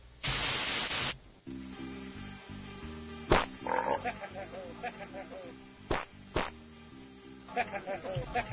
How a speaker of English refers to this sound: Well, admiration was soon followed by, you know what this needs? Some fart sounds.